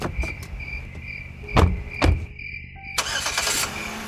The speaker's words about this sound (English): Driving down the narrow back road, the headlights of the car bore holes through the dark.